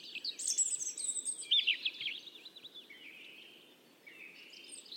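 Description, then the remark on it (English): A bird sings close by in a continuous stream of bright, high warbling phrases and trills, rising and dipping in pitch, over a soft, steady background hush with no voices. “A bird lands nearby and begins to sing.”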